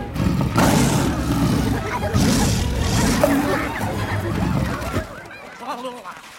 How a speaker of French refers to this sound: Voilà le roi des animaux. Oh, oh non, ne me dévorez pas. Il est grand, il fait peur. Tremblez.